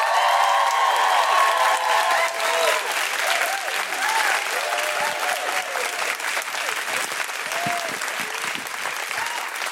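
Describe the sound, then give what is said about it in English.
A Guilty Feminist show audience bursts into loud, sustained applause mixed with high whoops and cheers as the act Jade Adams comes out, holding steady for the full stretch without any talking. “Please put your hands together and make incredible Guilty Feminist woohooing noises for the wonderful Jade Adams!”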